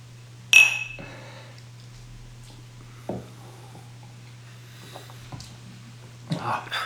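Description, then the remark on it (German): Whisky glasses clink together once in a toast, bright, with a short ringing tone, followed by faint knocks, soft murmuring voices and a low steady hum. “Ja, also von daher, Prost! Prost!”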